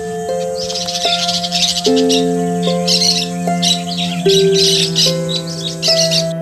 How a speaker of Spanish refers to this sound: Lámpago verde de locuaz charla, la lengua seca y abierto el pico, sin son ni tino parla que parla, el perico.